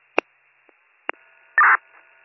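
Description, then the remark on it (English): Telephone dialing tones as a return phone call is placed from 76 Star Headquarters: a few sharp electronic clicks and beeps, then a louder, steady tone lasting about a quarter second over a faint, continuous line hum. “76 Star Headquarters, return phone call.”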